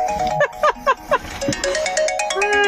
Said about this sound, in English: I'm getting a phone call. The studio line is ringing.